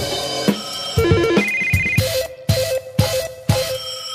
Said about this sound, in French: partons au pays de Simenon où il y a le téléphone qui sonne.